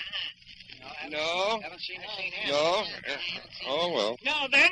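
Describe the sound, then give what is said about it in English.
A voice imitates a goat, letting out a run of wavering, nasal bleats one after another, loud, with short breaks between them. “Yes, how do you do, Mr. Goat?”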